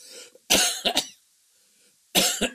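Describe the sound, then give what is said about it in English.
Two loud bursts of coughing from a person with COPD worsened by smoke from Canadian wildfires, each a quick cluster of two or three harsh hacks, separated by a second of near silence. “Excuse me, you're gonna have to put up with me and some coughing.”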